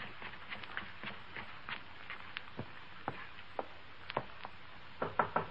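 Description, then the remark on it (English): Scattered sharp taps and thuds, then a quick cluster of firm knocks on a door near the end, fairly loud, with no one speaking. “Julie. It's Press. Open the door.”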